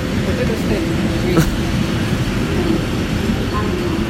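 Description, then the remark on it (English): A muffled, echoing public address announcement in a train station about a train coming from Erntebrück, the woman's voice hard to make out beneath a steady wash of rumbling station and rail noise. “I thought it was your train. I can't understand this lady. I mean the announcements, they're sort of obscured by the other noises and that.”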